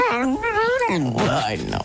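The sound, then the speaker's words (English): A dog whines and yips in a wavering, talk-like series of high vocal sounds, fairly loud, rising and falling in pitch for a couple of seconds. “You're after getting one of them talking dogs.”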